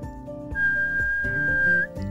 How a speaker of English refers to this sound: Louis put the flute up to his lips and blew.